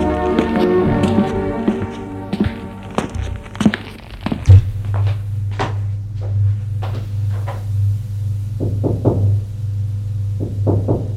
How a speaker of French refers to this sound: va frapper à la porte de la chambre